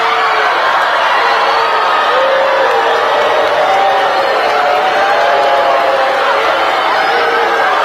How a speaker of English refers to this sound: And when she came out, she got booing and jeering not only at the beginning, but at the end. And the kids were dismissive the entirety of her speech.